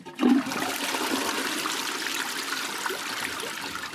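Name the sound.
toilet being flushed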